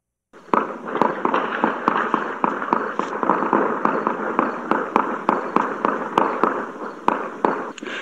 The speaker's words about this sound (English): There was an Afghan man who worked with Americans on the ground and provided Fox News with really what is just chilling audio featuring what is more than likely gunshots and execution.